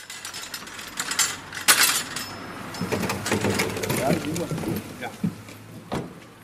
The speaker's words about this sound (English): thanks a man for helping him to pile tankards into the trunk of his car.